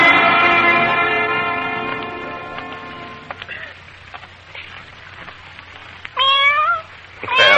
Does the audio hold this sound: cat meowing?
yes